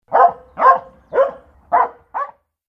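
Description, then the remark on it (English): A dog barks five times in a steady, evenly spaced rhythm, fairly loud, with the final bark shorter than the rest and no voices around it. “Be kind to the dog.”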